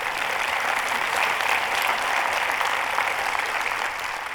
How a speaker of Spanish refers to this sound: Y para muchos de nosotros, un aplauso al Señor, no es mío.